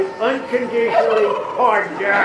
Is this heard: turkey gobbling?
yes